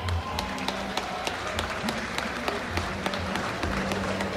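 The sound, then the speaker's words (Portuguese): A crowd applauds steadily as a team goes up on stage to receive a trophy at a municipal ceremony, a dense wash of many hands clapping at once with sharper individual claps popping out, sustained and fairly loud throughout with a low background hum. “Salva de palmas!”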